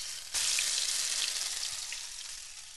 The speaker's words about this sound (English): So I'm pouring a couple tablespoons of oil into a medium heavy-bottomed pan, but we do want it to get pretty hot. You want the latkes to go in there and really sizzle.